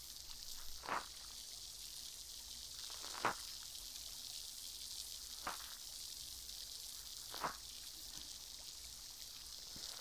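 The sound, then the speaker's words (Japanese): Soft fizzing of liquid on the tip of a cotton swab, a steady airy hiss broken by a few faint pops and crackles every couple of seconds, with no voices. “シュワシュワ、パチパチって、心地いい音がしてますね。”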